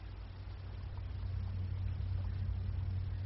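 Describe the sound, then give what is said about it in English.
The starboard engine of a submarine runs ahead with a steady, deep mechanical drone, a continuous low rumble that holds even throughout, moderately loud, with no voices over it. “Starboard motor turning, Herr Captain.”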